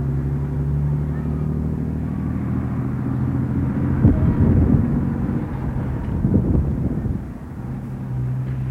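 Steady low traffic rumble of cars on the highway to Nijmegen at the Meuleneind in Wel, vehicles swelling past, two louder pass-bys a couple of seconds apart, with some wind buffeting.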